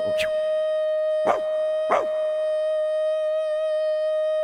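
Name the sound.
dog howling along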